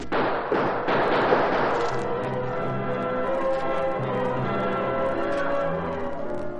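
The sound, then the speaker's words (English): A quick series of sharp gunshots, police shooting the lock off a heavy door, bursts out in the first couple of seconds, then gives way to a loud, sustained ringing tone that hangs steadily until the end. No one speaks. “As the police shot the lock from the heavy door, I went through the window”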